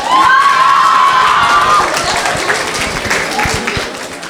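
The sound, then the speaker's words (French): A crowd applauds and cheers loudly for the collège La Fontaine, with dense clapping and a high whistle or shout rising over it early on, the noise gradually easing toward the end. “Et pour poursuivre, je vous demande d'applaudir le collège La Fontaine.”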